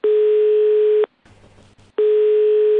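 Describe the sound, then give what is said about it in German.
A loud, steady telephone dial tone after a call was hung up hums for about a second, cuts to a short gap of faint line hiss, then returns unchanged. No one speaks. “Oh, Sie haben vorhin das Telefon aufgehängt.”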